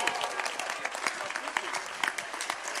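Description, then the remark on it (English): A crowd claps steadily, a dense patter of many hands at moderate loudness filling the whole stretch without pause, with no clear voices standing out. “Some of you can't clap because you joined them, isn't it?”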